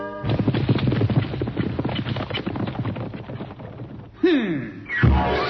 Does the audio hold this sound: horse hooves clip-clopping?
yes